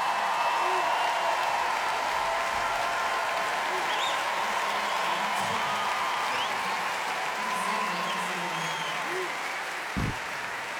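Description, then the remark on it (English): Steady, dense applause from an audience for the orchestral band, holding at an even loudness for about ten seconds, with a faint crowd murmur mixed in and one sharper burst near the end. “A beautiful round of applause for the orchestral band because they were amazing.”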